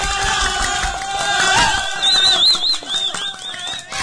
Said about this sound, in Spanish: Un fuerte aplauso, chicos, chicas, chicas de la cabina.